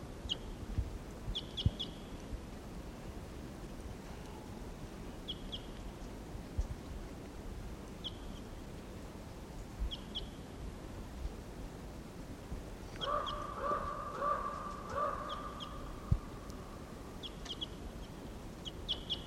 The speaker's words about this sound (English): Now it's about 20 minutes later and he's still here in the trees somewhere. Stop. There's a wild bird.